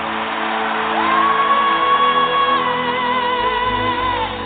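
A large crowd of voices shouts the name Jesus together loudly and continuously, with one long, high whooping cry sustained above the roar for several seconds.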